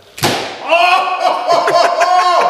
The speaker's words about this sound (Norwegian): Det smalt, det. For dere som bare lytter, så dette her en Unchako som møter en hjelm. Det var mye, frustrasjon I det slaget der, jeg kjente.